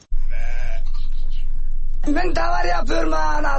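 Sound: sheep bleating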